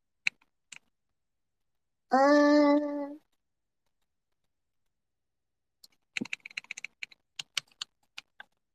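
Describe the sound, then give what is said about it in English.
A few isolated key clicks, a short buzzy tone lasting about a second, then a quick, irregular burst of crisp typing on a computer keyboard. “Oh, does my keyboard sound nice to you guys?”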